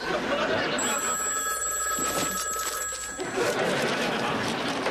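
A telephone bell rings in one sustained, trilling burst lasting a couple of seconds, fairly clear over a steady wash of room noise.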